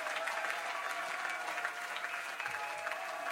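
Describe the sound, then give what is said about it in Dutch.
An audience on a live recording applauds steadily throughout, a dense, continuous wash of many hands clapping at a fairly even, moderately loud level, with no voices standing out. “Publiek geluiden erbij ook.”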